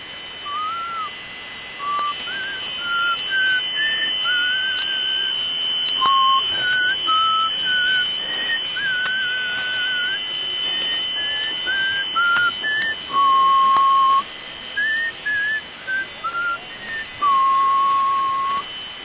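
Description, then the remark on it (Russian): Someone whistles a meandering tune, with clear sustained notes that slide between pitches and a few longer held tones, continuing steadily for the whole stretch with no talking. “Давно я не свистел.”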